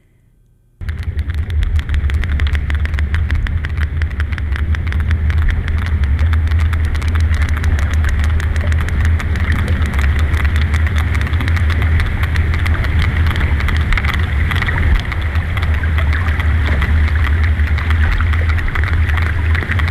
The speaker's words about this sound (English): So that was a sperm whale echolocating, and now a humpback whale.